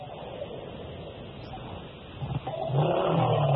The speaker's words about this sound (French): Moi, j'entends la moto